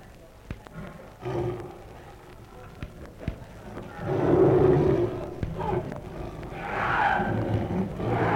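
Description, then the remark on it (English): Deep, rumbling roars and growls of a performing lion and tiger rise and fall across several seconds, fairly loud, with a couple of sharp knocks and some background murmur between the bursts. “I now have pleasure in presenting Mademoiselle D'Argent and her lion, also Trapka and his tiger”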